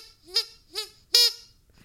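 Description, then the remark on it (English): Three sharp, honking squeaks from a giant rubber duck toy on a handle, used for impact play, squeezed at a steady rhythm, each a bright buzzy burst, the last one longest and loudest, with no talking. “So I have this very cool ducky, and he is an actual giant duck, and he's on a handle, and I use him for impact play, and he makes a squeak noise every time I hit somebody with it, and it's like my favorite thing ever.”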